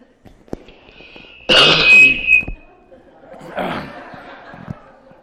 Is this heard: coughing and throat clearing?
yes